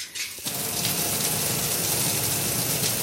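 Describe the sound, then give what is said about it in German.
A shower turns on and water sprays steadily, a dense hiss of running water that continues without pause after a brief start. “Ja, sind Sie heute Morgen schon unter der Dusche gewesen? Machen Sie lieber kalt oder warmes Wasser oder abwechslungsweise?”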